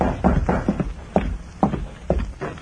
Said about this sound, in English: Then, one evening, long after darkness had fallen, the sheriff heard a soft rap on the door of his home.